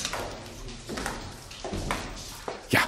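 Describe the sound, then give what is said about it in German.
Hard-soled footsteps of East German (GDR) era shoe heels tap slowly across a reverberant floor, a few distinct steps spaced apart, with faint drips of water in the background and a louder bright tap near the end. “DDR-Schritte und Wasser tropft.”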